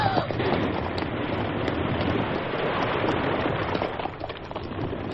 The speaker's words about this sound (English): An explosion. It blew the top of the rock all to smithereens. Yeah, Don. Before we left, the Lone Ranger put a charge of blasting powder up there with a slow-burning fuse.